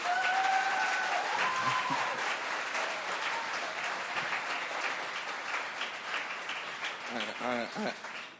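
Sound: audience clapping hands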